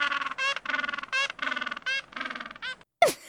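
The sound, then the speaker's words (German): A penguin brays in a long series of loud, harsh, honking calls, each a short buzzy burst in quick rhythm, heard alone, ending in a sharp squawk. “Machen Pinguine Geräusche? Ja, solche.”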